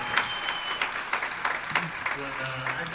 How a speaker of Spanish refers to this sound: Si le podemos dar un aplauso.